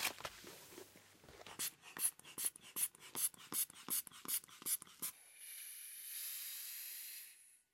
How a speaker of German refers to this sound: Dann wollen wir mal den Blutdruck messen.